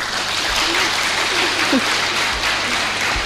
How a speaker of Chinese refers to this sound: 俾掌声师傅。